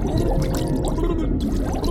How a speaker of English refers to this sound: It was so much water that it turned my backside to an upside, and all I could hear were the bubbles gushing out of my mouth.